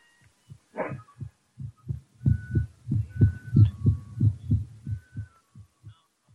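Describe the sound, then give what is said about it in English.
A heartbeat of a skinny, sick old man thumps in low, muffled pulses at a quick, steady rhythm, starting soft, swelling louder through the middle, then fading away again. No one speaks. “Hear if his heart beats.”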